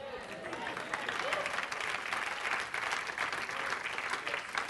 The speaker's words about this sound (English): Now some of you didn't clap because you're sitting there going, that's right.